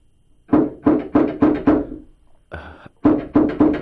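A visitor knocks on a door: a quick series of five firm knocks, a brief rasping sound, then four more rapid knocks in the same steady rhythm. No one speaks.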